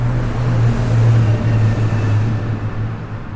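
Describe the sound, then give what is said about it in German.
Loud, steady road traffic noise: a low engine drone with a constant rumbling hiss that runs unbroken for the whole few seconds, with no voices. “Die Anthrophonie steht für den vom Menschen erzeugten Klang, beispielsweise durch Verkehr oder Industrie.”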